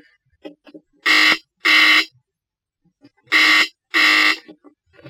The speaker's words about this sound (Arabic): هات دلوقتي الجرس بيضرب.